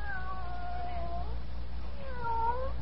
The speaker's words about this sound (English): Here, kitty, kitty, kitty, kitty, kitty. Oh, you listen, won't you? Nice, kitty.